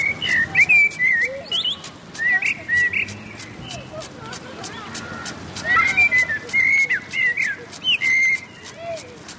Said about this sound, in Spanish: Escucharemos ahora el canto de un mirlo, hemos subido a una copa de un pino, están regando el césped abajo con un aspersor y al fondo unos niños juegan al fútbol. Esta es Madrid.